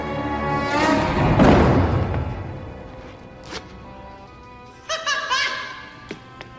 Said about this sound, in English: Mind if I zip this up?